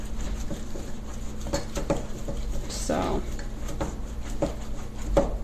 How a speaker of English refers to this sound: So, I'm just going to scrub this bowl clean.